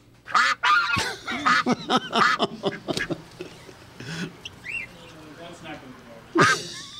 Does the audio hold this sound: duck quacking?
yes